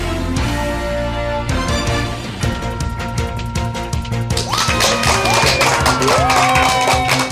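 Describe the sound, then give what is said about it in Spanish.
Loud, sustained applause from a crowd, a dense rattle of many hands clapping, joined halfway through by cheers and rising whistles that continue to the end. “Y con esa energía positiva y esos aplausos damos inicio a este episodio número 168 del programa Te Invito a un Café.”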